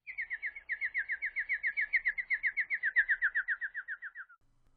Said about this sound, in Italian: Un uccello chiamò lontano nei boschi.